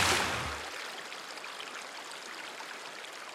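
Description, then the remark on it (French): River water flows steadily with a continuous rushing babble, opening with a brief fuller surge before settling into an even, unbroken stream. No voices. “Il a grimpé dessus comme sur un ballon. Et hop, sur la rivière.”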